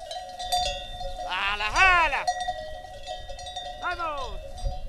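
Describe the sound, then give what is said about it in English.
Sheep bleat loudly, one long wavering call followed later by a shorter one, over a steady clanking of bells from the moving flock as it is herded toward the village square of Bustarviejo, a small village in pine-forested mountains north of Madrid, Spain, on a Saturday morning, with faint crowd noise in the background. “A flock of sheep is being herded toward the village square, and the celebrations are already in full swing.”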